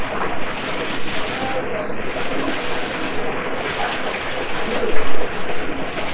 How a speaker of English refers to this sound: You said it wasn't dirty! You said yes, that's water.